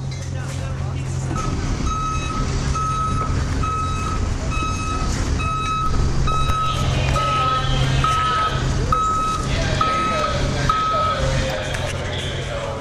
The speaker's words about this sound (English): On the Friday before the launch of the 2007 Pitchfork Music Festival, the sounds of basketballs hitting rusted rims and water being displaced by exuberant cannonballers share space with a less recreational buzz. Trucks lumber across the open fields.